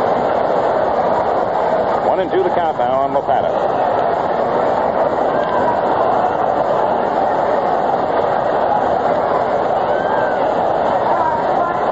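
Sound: stadium crowd roaring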